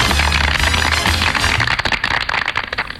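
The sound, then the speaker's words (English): A loud burst of applause from many hands, dense crackling claps packed together without a clear rhythm, thinning slightly toward the end with no voices over it. “Please clap.”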